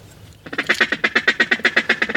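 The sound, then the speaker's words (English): A duck call blown by a hunter during a duck hunt gives a fast, steady run of loud, nasal quacks, over a dozen in quick succession, continuing to the end after a brief quiet start. “Now I'm looking around to see if I can see any ducks and kind of get an idea of what they're doing and what call to use when I see them. We don't just call to call. We call when we see a group of ducks.”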